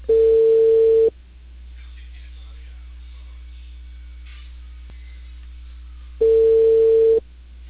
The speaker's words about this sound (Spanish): O la gente no contesta el teléfono fijo.